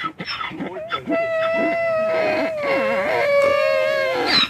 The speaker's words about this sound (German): Ja, hören Sie sich an, die Esel, die ja am Palmsonntag eine wortwörtlich tragende Rolle am Palmsonntag haben.